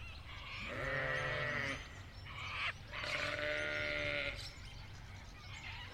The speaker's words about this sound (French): C'est le moment où on donne à manger aux moutons. Les Suffolk Sheep, les moutons de Suffolk. Et tout ça se passe à Littlehampton, en Australie du Sud. Ça a de la conversation, les moutons.